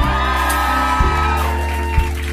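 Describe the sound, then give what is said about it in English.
A large crowd at NPR cheers loudly for a performer, with high whoops and shouts rising above a dense, continuous roar of applause and voices. “I heard this was one of the biggest crowds they've ever had.”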